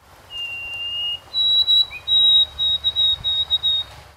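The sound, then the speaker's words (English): A Canadian white-throated sparrow sings alone a new, spreading song variant: one long, pure whistled note, then a slightly higher whistle broken into a rapid run of repeated short notes, over a faint low rumble. “That's the latest release by a band known as Canadian White-Throated Sparrows. Sounds like a normal bird call, right?”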